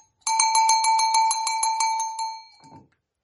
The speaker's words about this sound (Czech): Jsou to zvonečky udělané z plechu. Je to plechový zvoneček. Slovenský se takový plechový zvoneček jmenuje spěžovec a používal se pro kravičky.